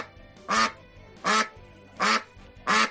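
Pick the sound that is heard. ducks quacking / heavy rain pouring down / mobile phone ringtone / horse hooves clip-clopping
ducks quacking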